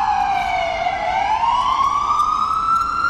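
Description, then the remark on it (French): A loud emergency vehicle siren wails in a neighborhood street, its pitch dipping and then rising slowly in a long continuous sweep, steady, with no voices. “Les sirènes aussi sont assez présentes dans le quartier. Depuis qu'on est arrivé, il y en a quelques-unes, on en a entendu quelques-unes.”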